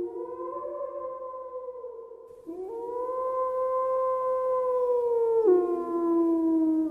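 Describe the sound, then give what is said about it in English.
A wolf howls at night up in a canyon in long, mournful, drawn-out notes, its pitch slowly sliding and dipping across three sustained phrases, fairly loud with nothing else around it. “It was no longer the loud, defiant howl I had heard so often, but a long, plaintive wail.”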